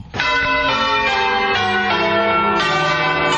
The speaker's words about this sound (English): Church bells tolled Saturday in the U.S. city of New Orleans, Louisiana, and across large swaths of the Gulf Coast, as residents mark the 10th anniversary of the deadly Hurricane Katrina.